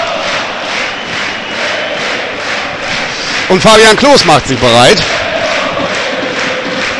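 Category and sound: crowd, football stadium crowd cheering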